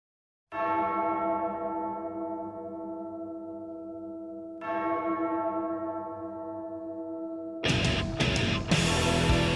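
A deep bell tolls twice at the intro of a heavy metal song, each strike ringing out with a long, shimmering decay, before loud, distorted rock music abruptly crashes in near the end.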